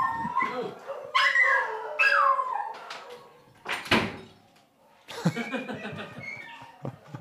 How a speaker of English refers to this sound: There's some dogs singing over dogs here. Dogs singing. hold on. Give me a second.